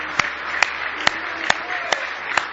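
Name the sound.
audience hand clapping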